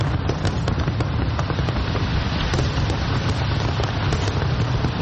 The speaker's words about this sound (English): Johannesburg's skyline was illuminated by thousands of fireworks as South Africans greeted 2025.